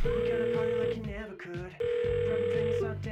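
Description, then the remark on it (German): A phone ringing on the line before anyone picks up: two steady, electronic ring tones of about a second each, separated by a short pause, clear. “Hey Sam, wenn du das hörst, können wir telefonieren? Bitte.”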